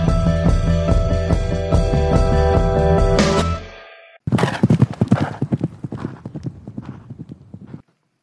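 A loud, sustained horse neigh holds for several seconds and fades out, then a quick, uneven run of clattering horse hooves follows for about four seconds before stopping abruptly.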